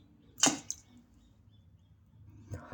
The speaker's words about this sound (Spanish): O cuando una moneda cae dentro de un recipiente con agua, se escucha algo así.